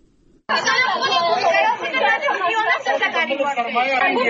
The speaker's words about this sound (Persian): صدای گریه و ناله شما را از دختران محصل انستیتوت های طبی در افغانستان است که امروز پشت درهای بسته این انستیتوت ها قرار گرفتند.